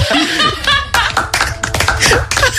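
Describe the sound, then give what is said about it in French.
A small group claps by hand in a quick burst of applause lasting a couple of seconds, welcoming a participant as she is introduced; the sharp claps are fairly loud, with a few voices faintly mixed in. “Faut l'applaudir quand même.”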